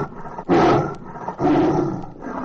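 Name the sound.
big cat roaring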